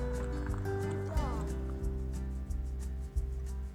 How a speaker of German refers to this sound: Ich fahre aber gerne mit dem Pferdewagen. Wir holen Tierfutter und arbeiten damit auf dem Feld.